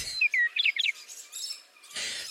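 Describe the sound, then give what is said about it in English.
Cardinal and blue jay calls at a bird sanctuary: a quick series of clear, whistled chirps with sliding notes, followed by a harsher, raspy burst, with no talking. “Goodbye, Cardinals. Goodbye, Blue Jays.”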